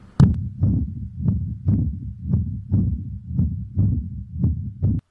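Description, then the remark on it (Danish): A fast heartbeat thumps steadily, about two low, muffled beats per second, with no voices over it. The pace holds fairly even throughout rather than clearly accelerating. “Og tager mig dramatisk til hjertet, fordi det begynder at sætte tempoet lidt op.”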